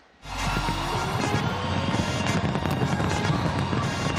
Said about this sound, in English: Auckland, New Zealand was the first major city to ring in the new year with a fireworks display, a full 18 hours before it strikes midnight on the U.S. East Coast.